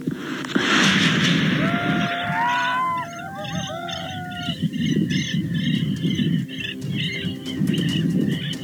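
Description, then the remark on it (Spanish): Scattered gunshots crack out as sharp pops amid a noisy outdoor background, with rising whistle-like tones drifting through the first half; shots fired during a police operation with armored vehicles, in the rain. “Sí hubo disparos, lo que pasa es que no hubo heridos.”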